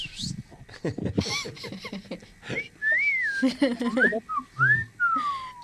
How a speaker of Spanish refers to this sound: Venga, le voy a silbar algo a ver si se puede.